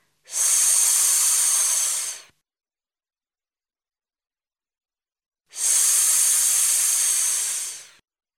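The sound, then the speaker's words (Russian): In a speech exercise, a voice makes two long, steady hissing "sss" sounds imitating water running from a tap, lips smiling and tongue against the lower teeth, each lasting about two seconds, separated by a silent pause. Fairly loud, with no talking. “Водичка льется из крана.”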